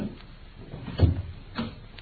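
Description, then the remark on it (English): A door opens quietly as someone enters the room, with a soft, low thump, followed by a second lighter bump about half a second later, over faint room noise with no voices. “I think I hear the fairy footsteps of your estimable partner.”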